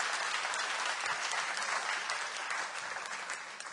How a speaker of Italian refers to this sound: Facciamo ancora un applauso al Signore.